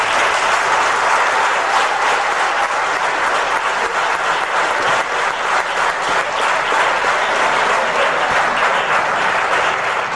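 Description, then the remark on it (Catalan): Sustained audience applause, dense and loud, with many hands clapping steadily for the full ten seconds and no voices standing out above it. “M'agradaria declarar un aplaudiment amb ells, sisplau.”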